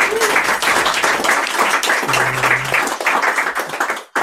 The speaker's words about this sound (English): And we had David W. Evans who couldn't make it either. So round of applause for those two who couldn't be here.